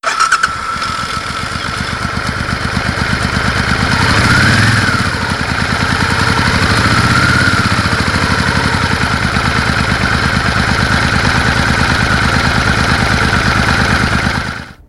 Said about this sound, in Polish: W dżinglu słyszeliśmy dźwięk motocykla, ale może byśmy posłuchali, jak ten motocykl radiowy, jak on dźwięczy. Także poprosimy dźwięk motocykla radiowego Radia Wnet.